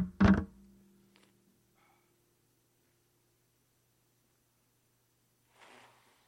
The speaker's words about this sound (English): So let me blow my nose again. Sorry.